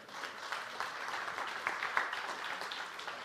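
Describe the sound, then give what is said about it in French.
A crowd applauds Pasteur Robert, clapping steadily and densely, a continuous patter of many hands with a few sharper claps standing out, sustained at an even moderate level with no voices on top. “Est-ce qu'on peut l'applaudir maintenant?”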